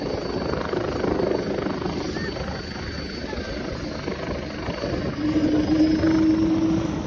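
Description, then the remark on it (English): A BK helicopter flying with a Hawk jet at an air show in South Africa drones steadily with a dense, throbbing rotor and engine roar that swells louder toward the end, where a sustained low tonal whine rises out of the noise. “The Hawk and the BK.”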